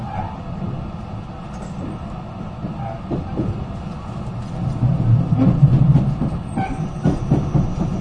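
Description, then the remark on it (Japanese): The Super Azusa No. 19 limited express train to Matsumoto, Japan, next stopping at Chino, rumbles steadily along the rails with a low, continuous roar and rhythmic clickety-clack of wheels over track joints, swelling slightly louder toward the end, heard from inside the carriage. “この列車は特急スーパーあずさ19号松本行きです。”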